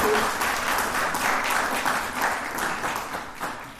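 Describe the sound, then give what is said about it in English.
An audience gives a final round of applause at the end of a speaker's session, a dense patter of many hands clapping at once, fairly loud and sustained throughout before easing slightly toward the end, with no voices over it. “But I think maybe just one last round of applause for a really fascinating...”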